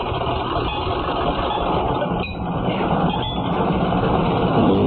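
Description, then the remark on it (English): A loud, steady rumble of Jack Benny's car engine running continuously for several seconds, rough and unbroken, with no voices over it. “That's what my car thinks of you, Alan.”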